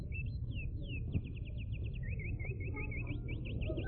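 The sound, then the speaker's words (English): A specially made recording of songbirds from Indiana singing, a steady run of quick, repeated whistled notes and sweeping chirps over a low, rumbling background hiss. “But the songbirds I'm lonesomest for are the ones that used to wake me up every morning back home in Indiana.”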